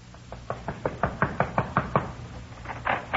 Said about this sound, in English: We went over to Red's place and knocked on his door.